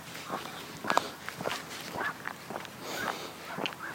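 dog

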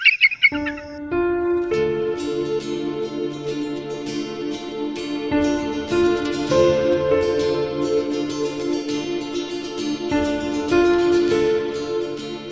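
eagle cry

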